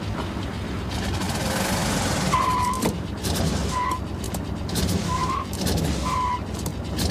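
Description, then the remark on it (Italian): An automatic car's engine runs loudly and pulls away after being shifted into drive, with a steady roar and several short, high squeals like tires slipping as it drives off. “Ma ti decidi a metterla in moto?”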